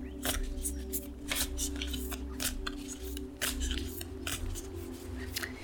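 A deck of cards being shuffled for a card reading until a card falls out, a steady run of crisp riffling bursts and snaps over a low hum, with no talking.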